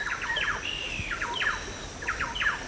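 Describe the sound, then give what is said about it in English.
Harsh, squawking bird calls repeat in quick bursts over a steady insect hum: flocks of green and yellow parrots chattering as they move overhead in the jungle along the Napo River. “River swallows dart back and forth across the water, and flocks of green and yellow parrots move overhead and disappear into the jungle.”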